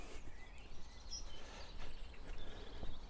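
Faint birdsong from several birds forms a scattered morning chorus of brief chirps and whistles over a steady low outdoor rumble, with a train also heard, on a walk just off the seafront in England; no voices.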